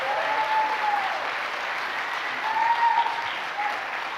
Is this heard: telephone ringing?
no